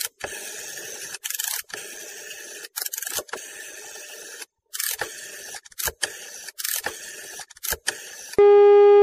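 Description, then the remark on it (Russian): A telephone number being dialed to call a political party's press service: bursts of mechanical, whirring clicks separated by short pauses, fairly loud, ending in a steady electronic tone on the line. “давайте-ка набирать телефоны.”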